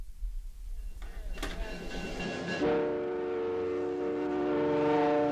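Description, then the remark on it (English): A passenger train running between Churchill and Winnipeg, on one of Canada's most isolated railroads, rumbles along the railroad. Then a loud, sustained horn blast rings out and holds steadily to the end, with no voices. “The train between Churchill and Winnipeg.”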